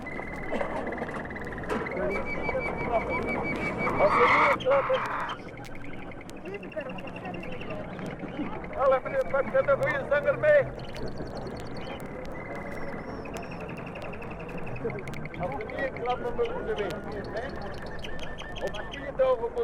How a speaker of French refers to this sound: Ou bien, le dimanche matin, quand s'y tient le marché aux oiseaux.